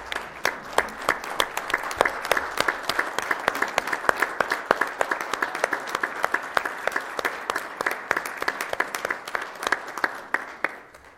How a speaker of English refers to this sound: So I just thought, let's leave her with a round of applause and thank her for what she's done.